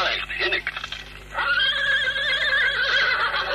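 A horse neighs loudly, a long shaky whinny with trembling harmonics that rises after a brief snort-like opening and fades out near the end.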